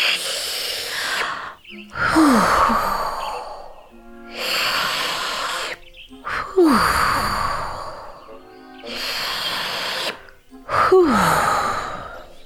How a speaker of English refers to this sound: Cheese and Sherlock were brushed across the floor as she sucked all the air in, making almost a vacuum.